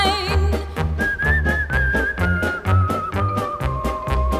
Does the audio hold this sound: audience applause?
no